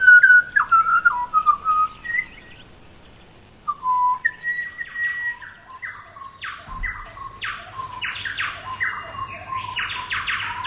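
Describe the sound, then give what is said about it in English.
A bird sings a varied, musical phrase of clear whistled notes, sliding and stepping in pitch, then a longer run of rapid bright chirps, fairly loud, with a low hum entering partway through. “Instead of this, the bird is singing this.”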